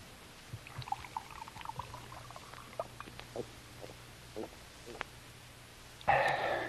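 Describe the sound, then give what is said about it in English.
Water pours steadily into a glass for a drink for the last half second, after a stretch of soft scattered clinks and small handling noises. “Could have a drink of water, sir. Certainly. Right here.”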